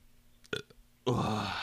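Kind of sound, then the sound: human body sound, burp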